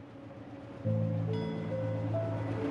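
The final train rolls away from a dim, torchlit station, rumbling steadily with a low, droning engine hum and faint tonal whines, growing louder partway through and holding at a moderate level.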